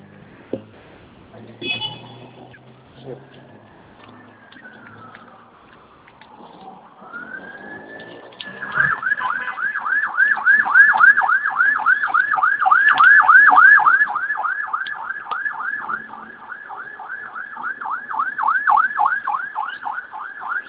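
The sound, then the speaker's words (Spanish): An ambulance siren winds up with a rising wail, then switches to a loud, rapid, steady warbling yelp that continues to the end after a quieter, muffled opening. “De la ambulancia.”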